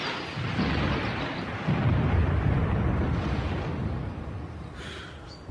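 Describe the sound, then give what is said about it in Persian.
Steady, dense rain hisses across the whole clip while deep thunder rumbles low, swelling around the second and third seconds before slowly fading. No one speaks. “باران میآید و ما تا فرصت سلامی دیگر خانه نشین میشه.”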